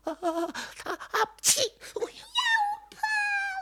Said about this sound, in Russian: Я чихнула, вот ты и вылетел из конуры.